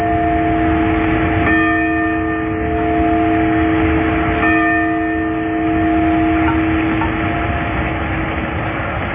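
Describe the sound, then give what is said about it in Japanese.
The bell of the Sapporo Clock Tower tolls slowly to mark four o'clock, its strikes spaced a few seconds apart, each leaving a long humming resonance that rings on beneath the next. No voices accompany it. “札幌時計台の鐘が4時をお知らせします。”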